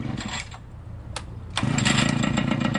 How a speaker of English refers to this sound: Romero starts up a black pocket Harley.